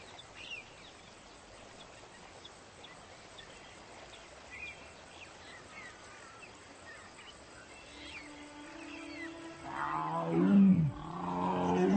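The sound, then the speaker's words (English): A tiger lets out a deep, rumbling roar that swells over the last few seconds, rising above a steady bed of insect and cricket chirring with faint bird calls in the background. “The tiger is answering them.”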